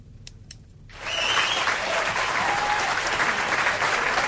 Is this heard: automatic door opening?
no